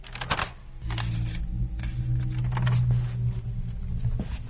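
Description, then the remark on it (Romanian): Pages of a guestbook are turned and handled, giving several soft papery rustles and light taps over a steady low hum, with no one talking. “În lipsa unor vizitatori, încerc să răsfoiesc cartea de impresii.”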